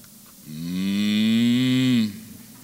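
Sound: cow mooing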